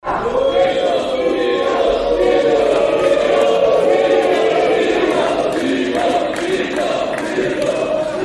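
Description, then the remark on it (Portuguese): A large crowd at a ceremony in Brazil roars with loud, sustained booing, with scattered clapping crackling over the top, as the President of the Republic, Jair Bolsonaro, receives a medal from Chamber president Arthur Lira. The din stays steady and dense for the whole stretch, with no single voice standing out. “O presidente da República compareceu à cerimônia e recebeu vaias e aplausos quando recebeu a medalha do presidente da Câmara, Arthur Lira, do PP de Alagoas.”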